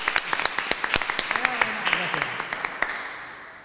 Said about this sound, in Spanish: espero que tu público, en el que me incluyo, te podamos recibir de la manera que mereces. Un fuerte aplauso.